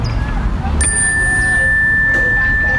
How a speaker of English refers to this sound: But my favorite part of her class was when we would go outside and sit on the grass in her outdoor classroom. As we sat among the trees, she would ring the chime bell to let us know that class has started.